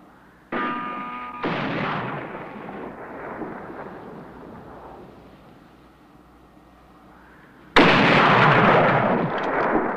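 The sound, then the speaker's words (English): A rifle with a telescopic sight fires a high-velocity bullet among rocks. A sharp gunshot cracks out and rolls into a long, rumbling echo that fades, then another loud, harsh blast bursts in near the end. No one speaks. “Mingo touches his chest, where the high-velocity bullet has entered.”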